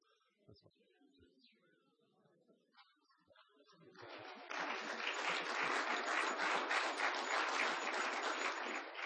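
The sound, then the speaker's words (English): After a few seconds of quiet murmur, an audience breaks into loud, sustained applause in approval, many hands clapping densely and steadily until the end. “We'll just take by your clap that that's approved, all right.”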